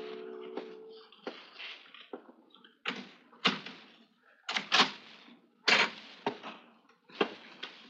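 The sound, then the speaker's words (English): A door being opened, with a series of sharp wooden clunks, knocks and latch rattles spread irregularly across several seconds, no voices present. “But while I was taking mournful stock of my seemingly hopeless surroundings, I heard something that made my heart leap. Someone at the door.”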